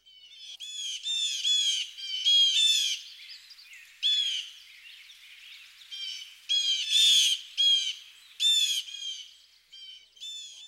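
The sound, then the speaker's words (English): A flock of blue jays gives harsh, rasping jay calls in a loud, overlapping chorus, in repeated bursts with brief pauses between. “These harsh JJ calls are often heard in chorus as flocks of these noisy birds move about.”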